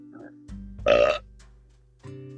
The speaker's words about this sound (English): I just got done burping. You didn't even give me time to say excuse me.